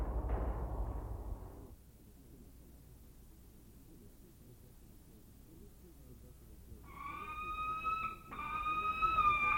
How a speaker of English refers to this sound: We're listening to the vocalizations of the Harris's hawk, a bird which is currently teetering on the edge of extinction.